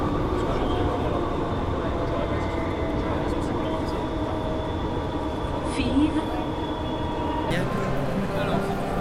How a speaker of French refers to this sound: Donc là, on est en train de prendre le métro. Ouais. Il y a combien de lignes à Lille ? Deux lignes. Et on va aller métro automatique depuis Lille, pas mal. Lille-Flandre. Ouais.